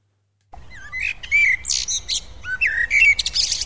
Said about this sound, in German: Vögel singen, die Sonne wärmt, draußen in der anderen Welt.